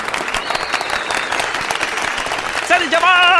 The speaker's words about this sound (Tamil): அவங்க ரெண்டு பேரும் வந்து இங்கே கூப்பிட்டு கை தட்டுறதுக்கு டைம் இல்லை, அவங்களுக்கும் டைம் இல்லை அப்படின்ற காரணத்தால் உட்கார்ந்த இடத்துலேருந்து நான் கை தட்ட போகிறேன், அவங்களுக்கு கேட்டுரும்.